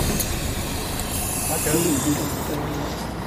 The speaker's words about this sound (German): Zweimal sind wir mit dem Bus gefahren, damit wir auch dieses Geräusch endlich herbekommen.